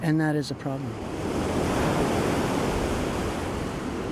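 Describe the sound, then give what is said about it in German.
Waves wash steadily against the sandy shore of Lake Ontario in Rouge National Park in a continuous, rushing roar that fills the whole clip. A short voice is heard at the very start before the surf takes over. “Zurück am Ufer des Ontariosees.”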